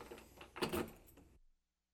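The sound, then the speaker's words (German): A key turns in a shop door lock at closing time, with a short cluster of metallic clicks and rattling lasting just over a second, then silence. No one speaks. “Aber zuerst einmal die Tür abschließen.”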